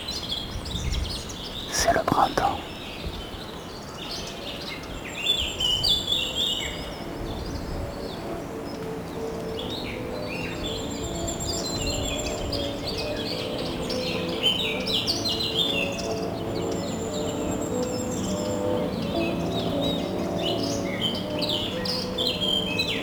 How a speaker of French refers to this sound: Beaucoup d'arbres, beaucoup d'oiseaux.